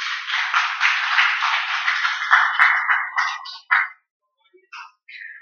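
A small group applauds steadily for a few seconds, a dense, even patter of hand claps that thins out, ending with a few scattered, separate claps before stopping.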